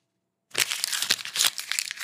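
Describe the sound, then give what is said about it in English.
A real paper banknote being crumpled, a dense run of crisp crackles and crinkles that starts abruptly after a brief silence and continues steadily to the end, with no voices. “Now I'm going to crumple a real bill.”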